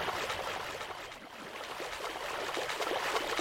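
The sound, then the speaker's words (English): Steady splashing and sloshing of shallow water as someone walks through the shallow far north of an ocean map, with soft repeated splashes blending into a continuous wet hiss at moderate, even loudness and no voices. “But the far north of this ocean map, which I'm in right now, is shallow, which I'm walking in, and I can just walk all the way east across this map until I reach the eastern map border, which will be another travel point into the very wet rainforest.”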